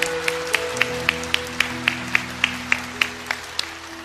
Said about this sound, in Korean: 영광의 박수 올려드리겠습니다. 그리고 우리의 다음 세대를 위해서 큰 박수로 격려해 주시면 감사하겠습니다.